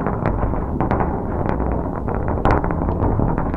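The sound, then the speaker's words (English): A video game bowling ball throw from a game where zombies are bowled at instead of pins: a heavy, continuous low rumble of the ball rolling, dotted with brief sharp clicks and thumps, holding a fairly even loudness for a few seconds. “Throw ball.”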